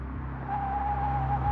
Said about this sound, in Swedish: Vid ljudet av bilen tittar de ut.